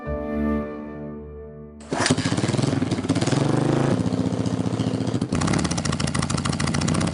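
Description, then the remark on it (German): A motorcycle engine idles with a low steady hum, then roars up loudly and keeps running with a rough, rapid pulsing rumble, with no voices. “Mit dem Motorrad.”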